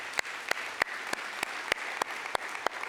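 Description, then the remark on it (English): A church audience applauds steadily in celebration of the church's 135 years, a dense wash of many hands clapping, with sharper claps standing out at a regular, fairly quick beat throughout. No one speaks over it. “Now, the reason we clap is not because we did it.”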